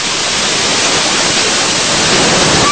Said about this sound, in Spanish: Rescate de un pequeño animalito que increíblemente permaneció durante más de 2 horas sobre un peñasco en pleno caudal del río Rímac, luego de ser jalado por la corriente.